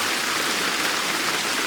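Heavy downpour pours steadily, a dense, loud hiss of rain with no pauses and no voices.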